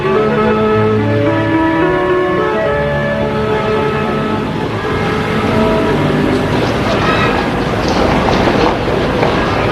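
metro train running

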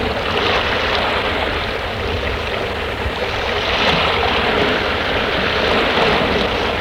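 ocean waves

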